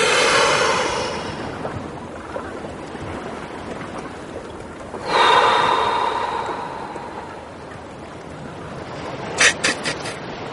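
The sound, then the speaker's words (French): Freedivers breathe powerfully before diving into the water: a long loud inhale-exhale at the start, another surge midway, then a few short sharp puffs near the end, over a steady rushing background like water or wind. “Là, on entendait vos respirations, puissantes respirations, inspirations, on souffle avant de pénétrer l'univers aquatique”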